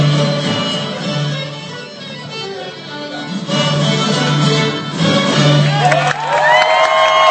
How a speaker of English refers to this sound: On Sunday afternoon, camp director Brian Wickland led a very excited and amazingly accomplished group of young guitar, fiddle, mandolin, cello, and bass players onto the Gray Fox stage, where they performed before a cheering crowd.